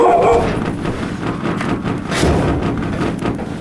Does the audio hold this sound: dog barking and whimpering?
yes